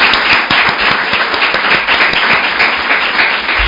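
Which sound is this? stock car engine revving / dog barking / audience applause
audience applause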